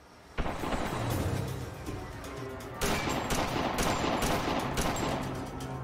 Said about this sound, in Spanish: Segundos después, el tiroteo.